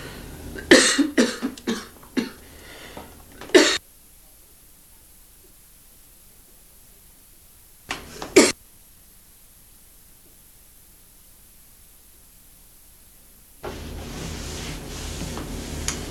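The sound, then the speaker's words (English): A burst of several harsh coughs and throat-clearing sounds, then near silence, then two more quick coughs; a steady hiss of static fills the final seconds. “Oh, it was a mistake to cough.”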